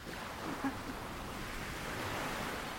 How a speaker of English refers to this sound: so close she could sit where the waves broke on the sand.